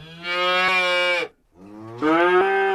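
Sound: cow mooing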